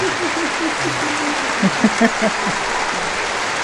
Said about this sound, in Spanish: Mira, la gente como se están creciendo, ¿eh? Está todo el público aplaudiendo.